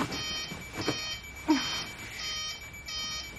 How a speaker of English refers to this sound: Lauren awakes in her bed to her 7 a.m. phone alarm